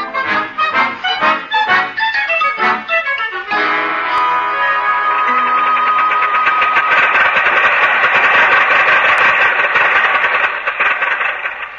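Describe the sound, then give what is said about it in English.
An old car engine sputters through several rough, rhythmic bursts, then catches and settles into a loud, continuous rattling idle, with no voices. “listen to that motor purr.”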